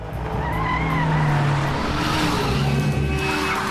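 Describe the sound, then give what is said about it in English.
A taxi's engine roars loudly as it accelerates hard and speeds off in Paris, tires squealing against the road in one continuous burst of noise. “As it speeds away, they glance out of the rear window.”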